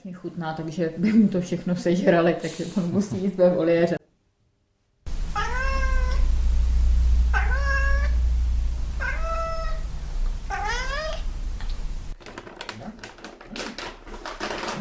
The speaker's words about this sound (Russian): Не будем больше кота мучить. Даем ему еще сухого корма. Давай ешь, не разговаривай. Не разговаривай, ешь. Он вредный кот.